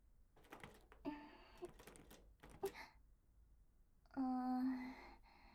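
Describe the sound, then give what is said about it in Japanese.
Rattling and clicking as a small door on a reward box, leading to the outside, is tried several times but does not open, followed by a loud, drawn-out creaking squeak near the end. “開けられるみたいですよ。外につながってる小さな扉みたいなのがついてますね。”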